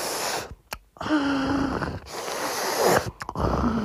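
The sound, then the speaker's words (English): Loud, raspy breathing of a child drinking water: noisy gasping and snorting bursts that rush on for a second or so, broken by a few brief pauses, with no talking. “They breathe so loud when they drink water for no reason.”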